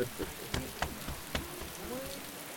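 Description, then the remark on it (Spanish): Steady rain patters across a surface, a continuous hiss broken by several sharp drop impacts, with faint murmuring voices low in the background. “Esta vez la lluvia era testigo de un nuevo comienzo.”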